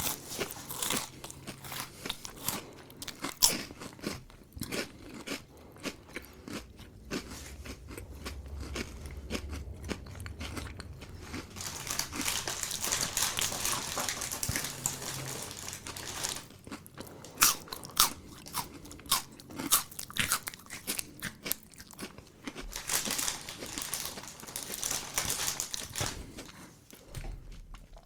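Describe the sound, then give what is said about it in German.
Loud, crunchy chewing right up against the microphone, with crisp crackling bites and wet mouth sounds continuing steadily for nearly half a minute, no talking. “Eine Minute kauen wir jetzt nur vom Mikrofon.”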